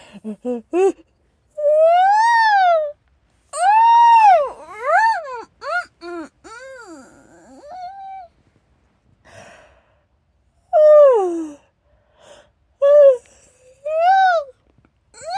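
A loud, drawn-out human yawn, exaggerated and groaning, with rising and falling vocal pitch in several long bursts separated by short pauses.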